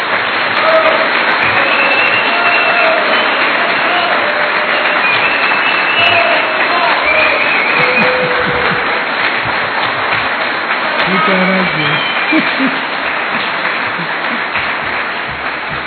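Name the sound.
audience giving loud applause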